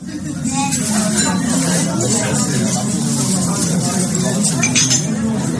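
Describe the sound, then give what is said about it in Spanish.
A busy restaurant dining room in Lyon, France, where dozens of people are eating dinner, with a steady murmur of many overlapping voices and frequent light clinks of cutlery against plates throughout, the whole scene evenly loud. “Suena a gente comiendo en un restaurante, los cubiertos, un murmullo.”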